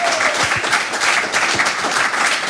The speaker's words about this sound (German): Bitte begrüßen Sie mit einem warmherzigen Applaus